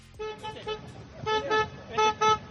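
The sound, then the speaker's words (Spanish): A car horn honks in a rhythmic pattern, about six short, loud toots grouped in pairs, with a low murmur of outdoor noise underneath, as the euphoric FC Barcelona club president, leaving Montjuïc in the back of a car, honks to cheer on the club's fans. “En la parte detrás del coche tocaba el claxon y quería animar a toda la afición del Barça.”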